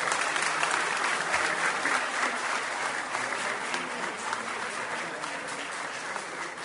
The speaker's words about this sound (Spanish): Muy bien, un aplauso para Canelones entonces.